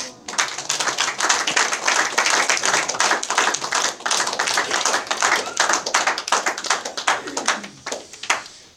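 An audience applauds loudly, many hands clapping in a dense, steady patter that holds for several seconds before thinning out and fading at the end. No one speaks over it.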